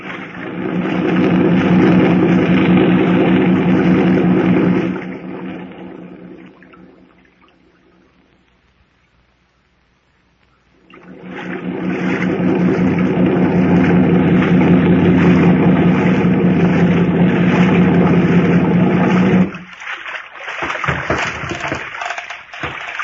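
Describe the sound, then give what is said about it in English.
A loud, steady boat motor drones over rushing, splashing water as the boat heads to the mainland, fades away for several seconds, then roars back up before dropping off near the end. “Run the boat up alongside that old piling and tie her up”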